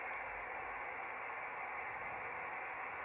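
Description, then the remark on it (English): Steady hiss of ham radio receiver static with electronic interference, probably from power supplies and electronics running in Studio 7, a constant band-limited noise filling the midrange, no voices, faint high whistles drifting near the end. “probably from power supplies and all the electronics we have running here”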